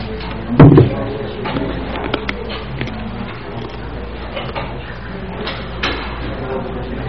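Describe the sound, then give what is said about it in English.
Furniture scrapes and thumps as chairs are dragged and shifted so that people can sit facing partners for an exercise. One loud scrape comes early on, scattered knocks follow, and indistinct murmuring voices run underneath. “So what I'd like you to do is find a partner to work with and rearrange the chairs so that you're sitting facing each other.”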